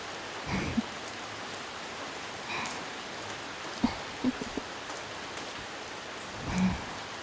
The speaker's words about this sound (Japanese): この雨やな。 明日も明後日も毎日